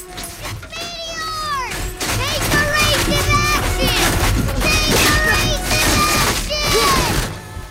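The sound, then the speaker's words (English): Tiny meteors pound and smash through a house's living room in a dense, continuous clatter of crashes and thuds, with shrill squealing voices and cat-like yowls rising and falling over the chaos. “The living room is pounded by tiny meteors.”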